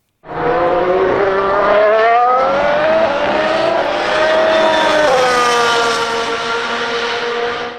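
Loud race car engines roar and rev at the start of a race, their pitch climbing, dipping, then surging again in one continuous blast lasting several seconds, with no voices.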